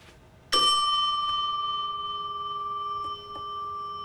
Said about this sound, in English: He looks up at the ceiling as he approaches the reception desk. Behind him, a red quilted seat and an impressive staircase that divides in two. He puts down his cases and rings the bell.